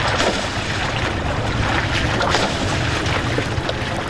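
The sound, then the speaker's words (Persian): Steady rush of the Hari Rud river with splashing as a 13-year-old boy washes cars in cold water on its bank in Firozkoh, Ghor province, Afghanistan, loud, mixed with gusty wind buffeting the microphone; no voices. “پسر 13 ساله‌ای که دستان کوچکش از شدت سرما سرخ شده در کنار دریای هریرود در فیروزکوه مشغول شستن موترها است.”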